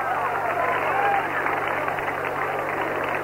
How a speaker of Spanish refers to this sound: Él es, y yo os pido un aplauso muy fuerte para él